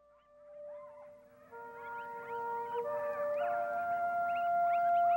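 A chorus of coyotes (Canis latrans) howls, several wavering voices overlapping with rising and falling yips, building steadily louder over a few seconds with no talking.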